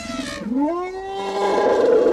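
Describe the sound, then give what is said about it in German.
A single loud elephant trumpet, a brassy call that bends upward and holds for about two seconds, with no voices. “Ey, 20.000 Elefanten will uns Botswana schicken, damit unsere Umweltministerin kapiert, dass die da nicht bedroht sind, sondern im Gegenteil ihren Rüssel überall hineinstecken.”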